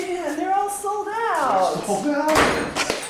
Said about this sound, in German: Ein Paar kommt nach mir zur Tür herein.